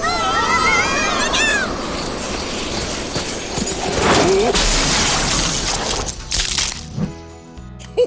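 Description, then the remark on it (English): A sleigh pulled by reindeer crashes while going too fast in fog and snow on a test run: a loud, continuous crash of smashing and shattering lasts several seconds, with hoof-like clatter and tinkling debris before it settles, ending in a few sharp knocks. “Yes, Santa, but the sleigh is smashed.”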